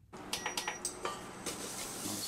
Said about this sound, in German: Er wirft Senfsamen ins heiße Öl und gibt frischen Knoblauch und Ingwer mit in die Pfanne.